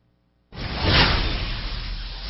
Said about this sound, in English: I think we need a swoosh.